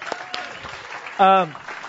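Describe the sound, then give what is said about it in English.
A crowd applauding themselves, a dense steady wash of clapping throughout, with a short, loud, high-pitched whoop rising above it near the middle before the clapping carries on. “Give yourselves a big round of applause for that.”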